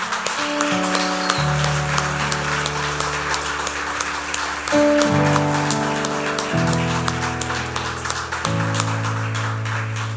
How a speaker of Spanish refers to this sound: ¿Alguien aquí puede dar un aplauso al nombre del Señor?